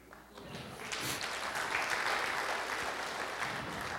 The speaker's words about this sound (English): I got cut, went to prison, and got set free. Y'all can clap right there.